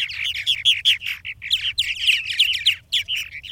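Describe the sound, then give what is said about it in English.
Purple martins, nesting in old woodpecker cavities in saguaro cacti in the desert, chirp and chatter in a quick, busy stream of bright, gurgling notes, several birds overlapping, with a faint low rumble underneath and no one talking. “Purple martins.”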